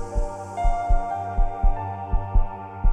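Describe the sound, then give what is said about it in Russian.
A rapid heartbeat thumps steadily, about two beats per second, deep, over a sustained droning tone with no voices. “У вас учащенный пульс.”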